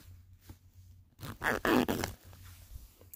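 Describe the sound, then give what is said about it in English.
A clothing zipper is pulled in one quick, scratchy rasp lasting under a second as someone undresses, with a soft low hum in the background and no speech. “Daddy, can you help me with the zipper?”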